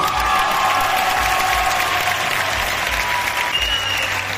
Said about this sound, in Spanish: ¡Fuerte aplauso!